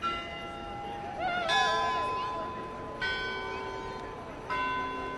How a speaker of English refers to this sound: The store had its own set of bells to ring out the Westminster chimes at the quarter hour. For shop clerks and laborers along Washington, the bells punctuated the working day for more than half a century.